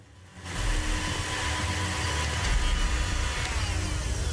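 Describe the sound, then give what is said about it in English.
A liquidizer blender motor starts up and runs with a loud, steady whirring roar, continuous, with a faint hiss layered underneath and no voices. “The guy turns off the liquidizer and tap.”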